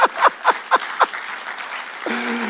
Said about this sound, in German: Applaus wert, oder?